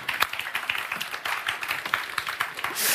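Audience applause for a participant on a show: a dense, steady patter of many hands clapping at once, moderately loud and continuous for a few seconds, with a brief burst of hiss swelling at the end.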